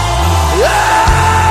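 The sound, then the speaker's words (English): A loud, sustained wash of many voices yelling and whooping together, a church audience screaming and cheering to Jesus in worship, with no single speaker standing out. “Now, can we scream one more time to Jesus?”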